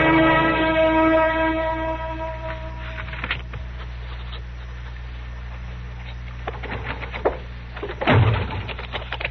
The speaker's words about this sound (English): What? No, sir. The door just slipped out of my hand. That's all that happened. You nearly broke it off.